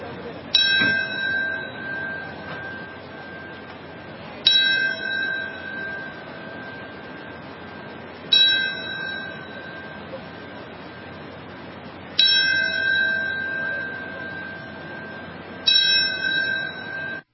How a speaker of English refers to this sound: Tenth anniversary of September 11th, there were bells that were rung. You could hear that there, the North Tower bell. That's what you were listening to.